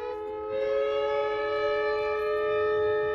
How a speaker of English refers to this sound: Emergency sirens roar at the Chevron refinery in Richmond, while a fire at the refinery sends flames and a plume of thick black smoke into the sky. The alarm means shelter in place.